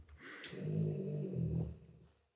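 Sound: dog snoring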